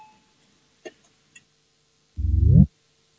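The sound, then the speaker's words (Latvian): A parliamentary voting bell signal sounds once before a vote on a bill amending the public transport services law in its first reading: a loud, buzzy half-second tone that rises slightly in pitch, preceded by a couple of faint clicks amid otherwise quiet surroundings. “Lūdzu zvanu, balsosim par likuma projektu grozījumu sabiedriskā transporta pakalpojumu likumā pirmajā lasījumā.”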